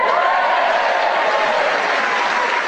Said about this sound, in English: As you can hear from the warmth of their applause, they are delighted to welcome us back to do another edition here of Just a Minute.